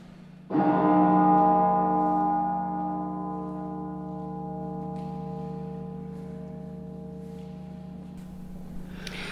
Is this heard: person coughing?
no